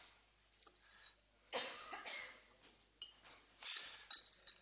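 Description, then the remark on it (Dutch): A glass fishbowl is fetched and set down for a vote at a municipal council meeting, with a few light clinks and knocks amid shuffling room noise and a cough, with no one speaking. “De viskom wordt even gehaald.”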